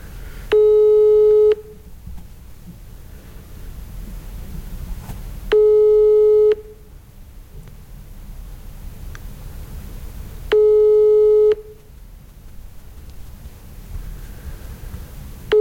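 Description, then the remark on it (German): A telephone busy signal during a call: a steady electronic tone repeats three times, each about a second long and spaced roughly five seconds apart, over low background hiss. No one speaks. “Also ich würde sagen, wir rufen sie mal an.”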